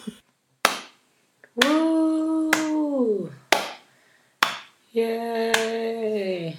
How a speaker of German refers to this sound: Jetzt möchte ich bitte einen Applaus